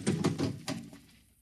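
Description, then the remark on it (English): A delivery truck door in a basement opens with a metallic rattle, then swings shut with a solid thunk a moment later, moderately loud, with no voices. “I'll get in.”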